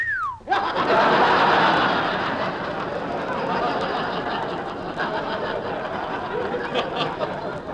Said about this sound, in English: whistling at girls.